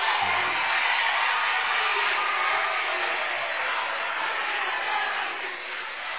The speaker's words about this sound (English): They do call an intentional foul. The Pinky County fans very upset. He slammed him to the floor. I'm just letting you listen to this crowd here.